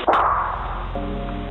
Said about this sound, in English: Then it sounds like things are being thrown. Just seconds later, the gun goes off.